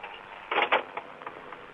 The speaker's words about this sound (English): Well, this is what it sounds like when you're having a conversation in a phone booth along a busy highway in Prairie Grove with the door open.